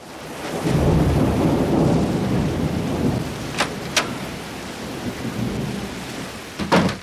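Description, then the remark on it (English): Heavy rain pours steadily and loudly, with a low rumble of thunder rolling through the first few seconds and a few sharp drips or taps standing out near the end. “It's raining very hard.”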